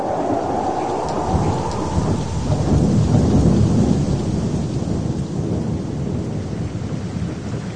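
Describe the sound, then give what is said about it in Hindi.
Steady, dense rain hisses throughout while a deep rumble of thunder swells in the low end, peaking in the middle before rolling on. No voices are heard. The rain is the flood rain God sent continuously for 40 days. “ये चित्र में हमें देखा थे कि परमेश्वर 40 दिन बद्री से लगातार पानी बरसा लग।”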